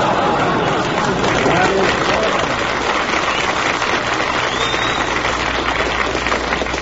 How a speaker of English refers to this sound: That's the corned beef crowd applauding.